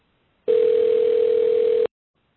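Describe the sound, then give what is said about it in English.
A steady electronic phone-call tone plays over speakers during a meeting, sounding once for about a second and a half, a single sustained pitch with a faint hiss around it, cutting off abruptly; no one speaks. “I've got a phone call in the background here on my speakers there.”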